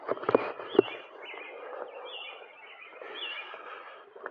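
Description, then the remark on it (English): Birds chirp outdoors in a steady, overlapping chorus of short high calls, with a couple of brief louder knocks near the start and no talking. “This is not dead air, this is live air. Listen to those birds.”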